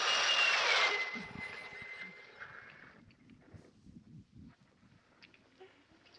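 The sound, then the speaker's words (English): A loud roar of speeding jet fighters with a high whistling whine fills the opening second, then fades over the next couple of seconds, leaving faint low rumbling and scattered noises. “As they had come, they were gone, even to the piercing eye of radar and the speeding jet fighters.”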